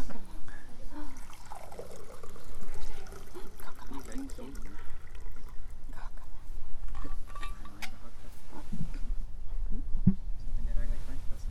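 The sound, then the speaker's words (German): Water, kept in a thermos flask so it would not be too cold, is poured from the flask for a baptism in a steady, splashing stream lasting several seconds, with faint murmuring voices, a soft clink in the background and reverberation. “Wir haben das Wasser extra noch in der Thermoskanne gelassen, dass es nicht so kalt wird.”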